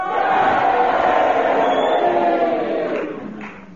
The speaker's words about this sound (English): If you agree with Kenneth Williams, would you cheer for him? If you agree with Magnus Pike, would you boo for him?